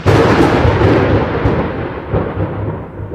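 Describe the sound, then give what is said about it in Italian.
A loud thunderclap from a lightning strike bursts out and rolls into a deep, heavy rumble that slowly fades over a few seconds, with no voices present. “Poi un fulmine lo colpì, uccidendolo.”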